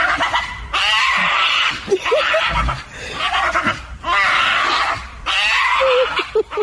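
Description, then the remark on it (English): A pug dog lets out three long, loud, high-pitched screams in a row, each shrill wail lasting about a second with short gaps between. “I think it's a screaming pug.”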